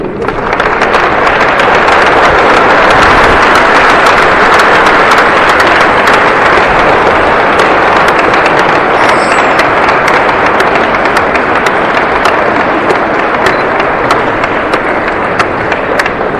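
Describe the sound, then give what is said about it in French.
An audience claps steadily and loudly to welcome two sisters of the Carmel apostolique de l'Enfant Jésus, a dense, even wash of many hands sustained throughout with sharp individual claps popping out, no voices heard. “On va les applaudir.”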